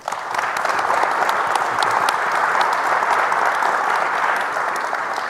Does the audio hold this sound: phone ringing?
no